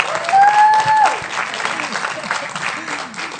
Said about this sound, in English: A round of applause again.